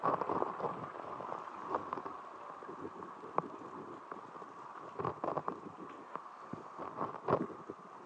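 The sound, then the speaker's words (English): Steady rain falls outdoors in a small town at midday, a constant broad hiss with scattered sharper drips and patters, with occasional gusts of wind buffeting the microphone. No one speaks. “They go out in the midday rain.”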